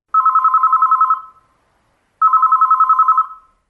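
telephone bell ringing

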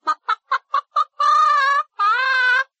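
chicken clucking

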